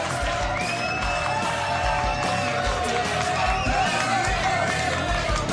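A crowd cheers and whoops over steady, dense clapping for a singer-songwriter, with shrill whistles cutting through at points; the loud, continuous roar holds for the full few seconds.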